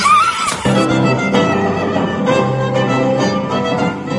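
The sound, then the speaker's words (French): A short, shrill horse whinny rises and falls in the first half second, then gives way to a steady, dense tonal background that continues at a fairly loud level. “Faites-moi le cheval.”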